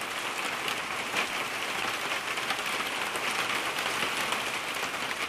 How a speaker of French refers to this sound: Et soudain, la grêle.